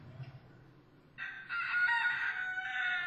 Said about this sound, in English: Chickens! Chickens!